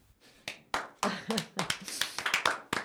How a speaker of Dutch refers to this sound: Prins Amorius, Ridder John en Ridder Jazz klappen. Heel mooi.